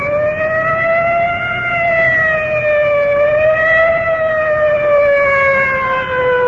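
A fire department inhalator squad's siren wails loud as the vehicle rolls in, its tone rising and falling slowly without a break over a low rumble of traffic, with no voices.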